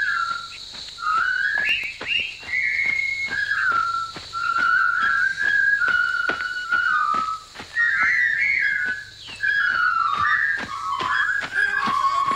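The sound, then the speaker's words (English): A large group of British prisoners of war whistles a jaunty marching tune in unison as they enter a Japanese POW camp at the start of the World War II film Kwai. The melody bounces steadily along, with sharp rhythmic clicks like marching steps underneath and no talking. “The movie begins with a large group of British POWs entering a Japanese POW camp to one of the most earwormy whistled tunes in movie history.”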